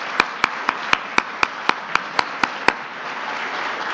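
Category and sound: crowd, audience round of applause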